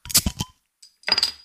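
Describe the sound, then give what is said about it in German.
Two quick bursts of glasses clinking together in a toast, bright, separated by a short pause, with faint ringing between them and no voices. “Prost.”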